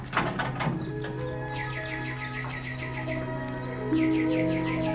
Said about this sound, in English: How beautifully the nightingales sing.